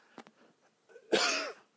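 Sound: cough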